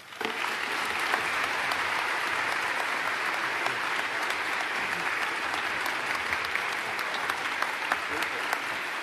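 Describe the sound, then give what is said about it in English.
Sustained applause from a large audience in Buffalo for Mrs. Mary Wilson and the members of the Ralph C. Wilson Foundation at a key-to-the-city ceremony, a dense, steady wash of clapping at even loudness with scattered sharper claps standing out throughout. “Let's give Mrs. Mary Wilson and the members of the Ralph C. Wilson Foundation another great big round of applause.”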